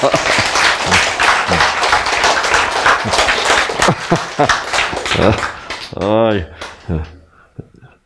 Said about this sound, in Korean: 박수